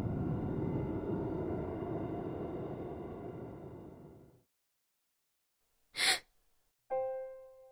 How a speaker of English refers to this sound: With a gasp, her eyes bolted open.